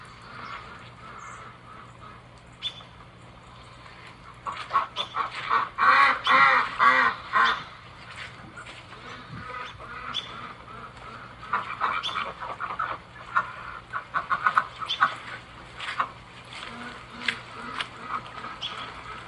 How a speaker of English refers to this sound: All right, so here is the quarantine duck. Hang on. The quarantine duck is in that little shed, and the other three ducks are in the pond. Let me just show you this little scene here.